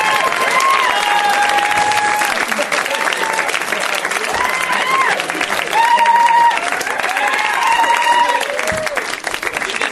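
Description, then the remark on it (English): A crowd bursts into sustained, loud applause with cheering and whoops as David Cross is introduced and comes out, the dense clapping steady for the full ten seconds while voices shout over it. “We should just do, like, let them clap for 25 minutes, and that's the...”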